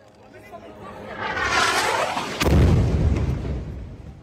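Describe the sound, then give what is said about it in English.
A rushing, rising whine builds to a sudden massive explosion as the 12-floor Al Roya commercial building is destroyed on September 7th, followed by a deep rumbling roar as debris seems to collapse. Faint background voices and commotion run throughout. “captured the explosion on camera”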